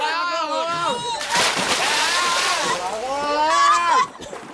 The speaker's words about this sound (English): He's jumped off the boat. Quick, get him out. The waves are too strong. He's drowning.